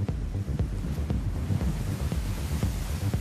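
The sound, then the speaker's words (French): Heavy ocean waves crash and churn amid many currents swirling in all directions, under strong gusting wind that buffets the microphone, a dense, roaring wash of water with no voices present. “Il y a tellement de courants, ça tourbillonne dans tous les sens.”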